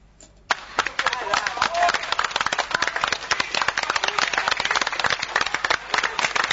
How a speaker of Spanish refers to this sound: Una aclaración con respecto al aplauso. Aplauso para poca gente. No, en realidad lo que ocurre es que el aplauso se termina fuera de la casa. Y entonces está la gente muy dispersa a lo largo en la vereda